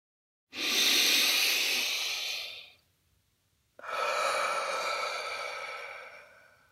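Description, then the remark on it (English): A single slow, deep breath taken while seated in a chair during a guided relaxation: a long airy inhale lasting about two seconds, a brief pause, then a long, steady exhale that gradually fades. No one speaks. “Maybe taking one more deep breath.”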